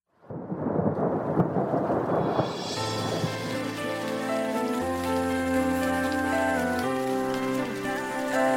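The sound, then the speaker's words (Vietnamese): Steady, dense rain hisses loudly for about three seconds with a low rumble, then slow melodic music fades in and carries on over the softer rain. “Nhưng hãy đừng ngần ngại, mà hãy tìm cho mình một chút bình yên trong sự lắng lòng cùng những cơn mưa các bạn nhé.”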